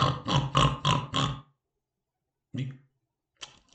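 A quick run of five low, throaty grunts, then a pause before one more grunt and a couple of short, raspy snorts, like a pig grunting.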